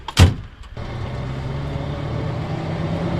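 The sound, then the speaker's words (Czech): A single sharp thud of the cab door of a vintage LIAZ city street-sprinkler truck (red cab, blue tank filled with 8,000 litres of water) slamming shut, followed moments later by its heavy engine starting up and settling into a steady, low rumble. “Nasedáme do... Veterána auta Lias.”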